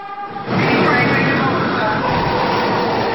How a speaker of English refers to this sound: The train was coming in like that.